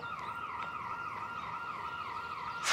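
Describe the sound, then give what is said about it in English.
An electronic alarm wails continuously, its pitch sweeping up and down in a quick, regular cycle. The sound is steady, with no voices over it. “Damn alarm.”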